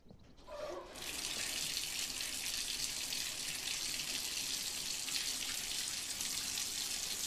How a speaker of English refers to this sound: She turns on the bath faucet.